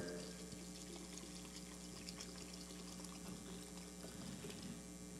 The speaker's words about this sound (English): This morning, we're going to fill our container with water.